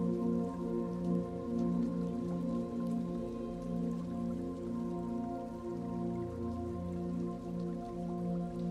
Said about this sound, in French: Un tout joli cours d'eau, bordé d'arbres, un modeste cours d'eau, pas très profond, et l'eau vive s'écoule doucement.